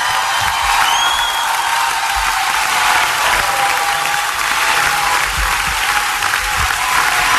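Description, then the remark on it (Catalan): A large crowd at La Paloma claps steadily and loudly, with euphoric cheers and a few high whistles rising above the dense, continuous applause. “Crits d'eufòria un altre cop aquí a la Paloma.”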